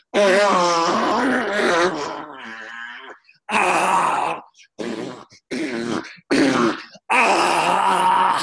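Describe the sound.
Loud vocal noises played from a cassette in a car: a long moaning, groaning sound, then a string of short buzzy, breathy raspberries blown into the crook of an arm and dramatic gasps of relief, separated by brief silences. No words are spoken.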